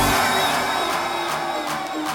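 A big crowd at an Australian hardstyle event in Sydney roars and cheers continuously, a dense wash of voices with scattered whoops rising above it, loud and steady throughout.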